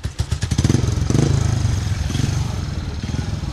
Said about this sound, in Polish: Na razie żużlowcy mogli kręcić kółko na dziedzińcu warszawskiego ratusza.